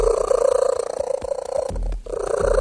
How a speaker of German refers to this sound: Ein Kater aus Südengland hat es ins Guinness-Buch der Rekorde geschafft. Und zwar wie? Mit seinem Schnurren.